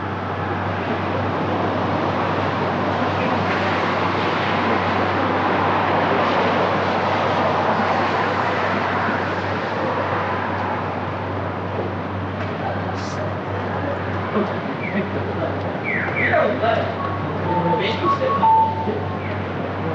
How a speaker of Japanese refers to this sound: ということもあり、夜中にもかかわらず人々や車が行き交っています。